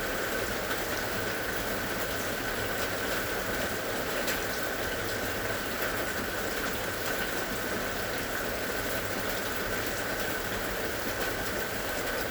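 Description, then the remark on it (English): Steady rain pours down continuously, a dense, even hiss of drops pattering on surfaces with no breaks or voices, enveloping throughout. “Breathe in the smell of the rain as you listen to the rain.”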